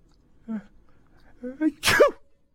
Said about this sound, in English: Let me hear your sneeze.